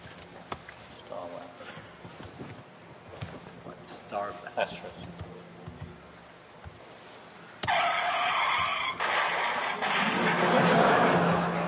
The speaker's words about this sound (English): What I really wanted was actually that most of this is missing, but basically you've got the sirens, you've got a helicopter coming along, you've got a guy saying, put your hands on the dashboard, don't move, pull over to the side.